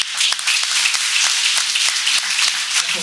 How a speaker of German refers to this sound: Jetzt haben wir schon ordentlich Applaus